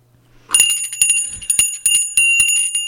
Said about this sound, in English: she's the one that gets the bell ringers out ringing bells